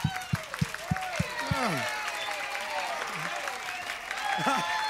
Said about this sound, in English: Just holler loud as you want it, baby. You know? You got mics there, mics all around you. Just scream. And give us that applause. Help us to eat tomorrow.